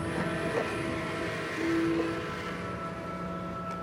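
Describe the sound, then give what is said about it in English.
A slow-moving freight train rolls by on the rails, a steady heavy rumble with metallic rattling and a brief tonal squeal partway through, continuous, with no voices. “Leroy was pulled beneath a slow-moving freight train”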